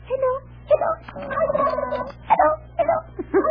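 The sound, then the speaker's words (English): A turkey in a crate gobbles loudly in a rapid, warbling rattle, followed by several shorter gobbling bursts and clucks spaced out over a few seconds, with no talking over it. “Who ever heard of chloroforming a turkey?”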